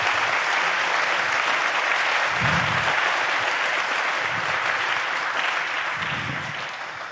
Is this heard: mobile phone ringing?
no